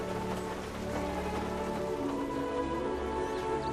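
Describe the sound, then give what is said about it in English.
Steady rain falls at night around a parked car in a continuous, even hiss, with soft droplet patter spread throughout and faint sustained tones lingering underneath. No one speaks. “Elsewhere, Paz waits out the night under a parked car as the rain falls around him.”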